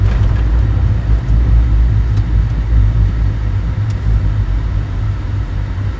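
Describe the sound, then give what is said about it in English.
Steady, loud low rumble of car traffic at a traffic light as the light lets three cars through in about 13 seconds, with engine drone holding fairly even for several seconds and no voices. “Thank you for the 13 seconds that you let three cars through.”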